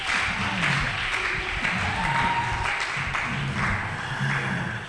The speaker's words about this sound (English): Can you clap for the Lord?